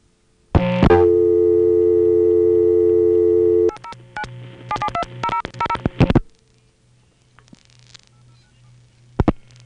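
A loud click opens onto a steady, buzzy telephone tone, then a quick run of clipped signaling digit tones and clicks, echoed faintly back from the Virgin Islands after a satellite-circuit delay, ending in low hum and a couple of faint clicks.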